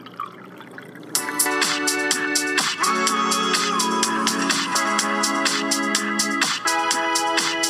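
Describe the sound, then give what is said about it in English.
A drink pours steadily into a glass at a bar, a bright gurgling stream with rising pitch as the glass fills, fairly loud, beginning after a quiet second and running continuously. “Don't stop. Keep pouring? Keep pouring, my friend.”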